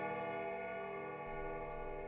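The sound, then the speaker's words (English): A clock striking the hour rings with a sustained, resonant bell tone, a fresh strike seeming to sound midway as the previous one hums on. Quiet, with no voices. “Like the clock at home.”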